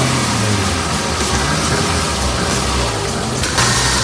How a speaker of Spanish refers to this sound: Es un motor a combustión de un coche, de toda la vida, que todavía está lejos de apagarse.